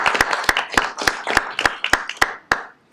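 A group at a Woodway city council meeting applauds homeowners thanked for helping make the city beautiful, a dense wash of clapping with one loud pair of hands beating out a regular rhythm of about three claps per second, then tapering off.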